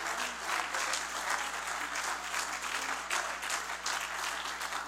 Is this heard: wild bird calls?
no